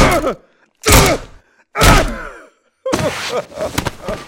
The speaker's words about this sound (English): He hit the wall again and again, bloodying his knuckles. Anne's hands went to her mouth, as she clearly heard bones crack and break.